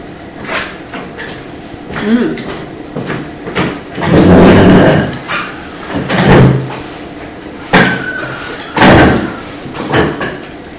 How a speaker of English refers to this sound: Yeah, we're closing the door because it's cold. You want to come in and eat?